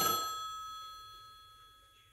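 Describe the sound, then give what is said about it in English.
A payphone's bell rings once with a sharp metallic strike, then a bright, sustained tone fades slowly over about two seconds. No voices are heard. “The payphone is ringing again.”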